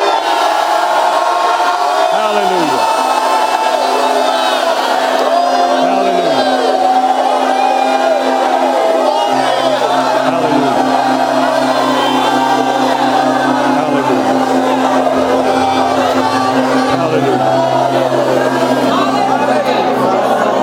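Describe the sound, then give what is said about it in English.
A crowd erupts in loud, sustained shouting and cheering, giving the Lord a shout of praise, many voices overlapping in a continuous roar with whoops and cries rising above it, lasting throughout with no single speaker. “Now, give the Lord a shout of praise.”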